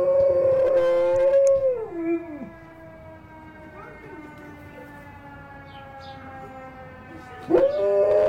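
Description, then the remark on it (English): A golden retriever named Gracie howls loudly with long, wavering notes that slide down in pitch, imitating the siren of a fire truck going by the house, then a fainter steady wail carries on before another howl rises at the end. “Fire truck goes by their house, and apparently this happens every time Gracie imitates the siren.”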